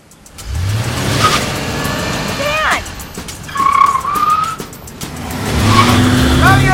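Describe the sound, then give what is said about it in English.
A car pulls out into the street: the engine revs up loudly and steadily, with a couple of short, high tire squeals and rising whines over the rumbling motor. “She exits the car, then he pulls out into the street.”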